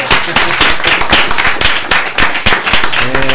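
A burst of enthusiastic applause from a small group, dense overlapping claps filling the whole stretch at steady loudness, with a faint voice briefly rising near the end.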